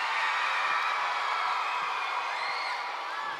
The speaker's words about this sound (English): Thank you for all your help. Come on, guys, give her a big round of applause.